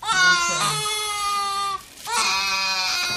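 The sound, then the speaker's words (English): A 15-month-old boy wails while being vaccinated at the pediatrician against measles, mumps, rubella and chickenpox: two long, loud, high-pitched cries separated by a brief gasping pause, the sustained sobbing strained and steady with no other voices present. “On this day, he's being vaccinated against measles, mumps, rubella, and chickenpox. He doesn't much like it.”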